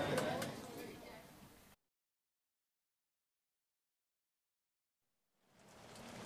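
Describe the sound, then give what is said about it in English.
A dense, steady hiss of falling rain breaks off abruptly into several seconds of silence, then gradually swells back in and continues. “Look at that rain.”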